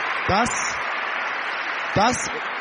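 A crowd gives a warm round of applause for a participant, steady and loud throughout, a dense wash of clapping, with a couple of brief vocal whoops or cheers rising above it.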